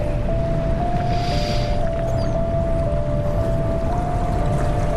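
flowing water

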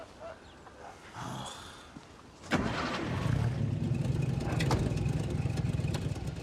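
car engine starting

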